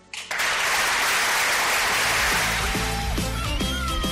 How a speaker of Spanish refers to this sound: Bueno, pues ahí estaba esa ovación de sus compañeros